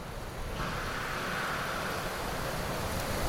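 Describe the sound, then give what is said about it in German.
A blacksmith uses tongs to plunge a glowing horseshoe into a bucket of cold water, giving a steady, rushing hiss of steam that swells in after a brief moment and holds loud and even to the end, with no voices. “Du beobachtest, wie er es anschließend mit einer Zange in einen Kübel kaltes Wasser taucht.”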